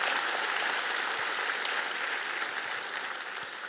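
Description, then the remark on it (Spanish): An audience bursts into loud, sustained applause for the Lord during a sermon, a dense wash of many hands clapping together that holds steady and fades only slightly toward the end, with no voices standing out. “Vamos a dar un aplauso fuerte al Señor.”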